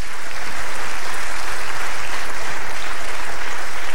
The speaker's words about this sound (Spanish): Dele palmas al Dios de la gloria.